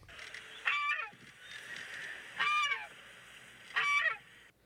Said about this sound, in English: And then the goose did a little bit more talking to me.